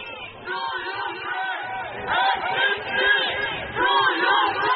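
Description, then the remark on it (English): A crowd of protesters lining the route of U.S. President Joe Biden's motorcade shouts "F-16s to Ukraine" in unison, rhythmic chanting voices rising and falling in loud repeated bursts, with overlapping yells throughout. “Protesters lined the route of his motorcade, shouting F-16s to Ukraine.”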